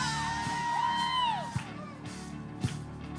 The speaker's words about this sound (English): If you agree, somebody shout out hallelujah.